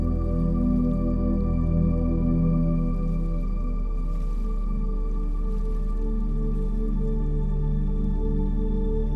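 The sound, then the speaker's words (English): Gentle running water trickles and drips continuously, layered over a steady, sustained low drone. The sound stays even and calm throughout, with no voices. “And let the soothing sounds of running water lull you into deep, restorative sleep.”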